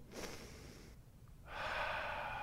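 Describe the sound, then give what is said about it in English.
A person makes an exaggerated sniffing sound: a quick breathy intake, a short pause, then a long, drawn-out inhale through the nose, as if savoring a pleasant smell. “And that God, when he sniffs our lives, when we do that anointing check, and God sniffs our lives, that God would go.”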